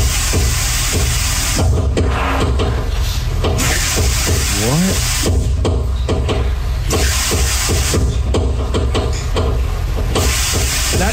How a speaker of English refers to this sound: I don't know what happened, but in the last week or so, like every time I turn on the shower, I turn on the sink, it sounds like the pipe. And here, listen, tell me.